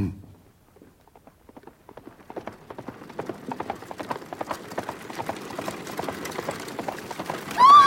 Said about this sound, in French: Ah! Écartez-vous! Écartez-vous! Place! Des chevaux emballés! Oh, la pauvre femme et son enfant! Il ne peut pas les arrêter!